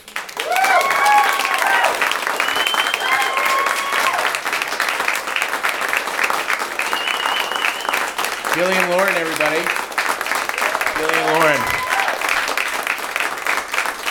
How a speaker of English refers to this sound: Applause, applause.